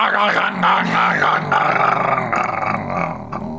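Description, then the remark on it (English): A person imitates the noise a failing Formula 1 car engine made when it ran out of power, with a loud, raspy, growling voice that sputters and wavers in pitch for several seconds without pause, ending in a rough choke. “Did you hear the that noise that his engine made? Can you imitate that noise for us?”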